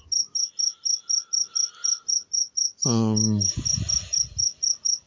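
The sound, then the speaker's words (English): A cricket chirps steadily indoors at 9:30 at night in quick, even pulses throughout, clear, briefly joined midway by a short, loud, low droning sound and some soft rustling. “I don't think I'm ever going to get this silence to go because I got this darn cricket in here.”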